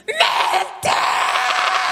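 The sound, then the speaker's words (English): A theatrical, high-pitched scream from a single voice, loud, breaking briefly then swelling into a sustained wail, imitating the Wicked Witch of the West's dying 'I'm melting!' shriek, acted out as a sugar cube sinks in a cup of tea. “As the sugar cube sank in the cup of tea, he did his best Wicked Witch of the West. I'm melting! He screamed.”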